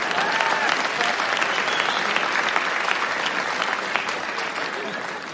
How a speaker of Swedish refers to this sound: Ni kan ta en applåd.